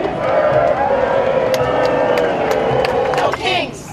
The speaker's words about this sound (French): Donald Trump a tout de même eu droit à une chanson de la foule.